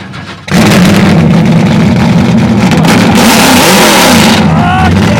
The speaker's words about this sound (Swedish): Och nu ska du starta din bil.